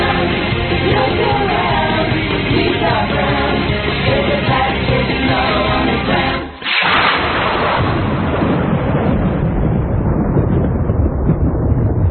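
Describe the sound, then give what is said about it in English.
Loud, sustained thunder rolls and crashes for the whole stretch, with a brief lull midway before another booming burst that slowly fades. No voices, just the heavy, rumbling storm. “Now there's the thunder”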